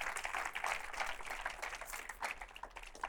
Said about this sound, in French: Applaudir Jésus. Pueden aplaudirle.